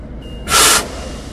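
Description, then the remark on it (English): A sudden loud hiss of a SEPTA train's air brakes venting as the positive train control system applies them when the train goes over the speed limit, lasting about a third of a second over a low rumbling background, then fading back to quiet. No one speaks. “You hear the alerts. You're not going to be able to do it much longer.”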